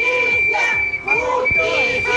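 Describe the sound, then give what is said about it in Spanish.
A crowd of protesters outside the venue of an event marking 50 years of salmon farming, at Parque Costanera in Puerto Montt, shouts and chants demanding justice in a continuous, dense roar of overlapping voices, with a steady high whistle-like tone running underneath throughout. “Sí, ustedes lo escuchan, es el grito, la petición de justicia de las personas que han llegado hasta el exterior del recinto en Port Montt, acá en el Parque Costanera, a manifestarse”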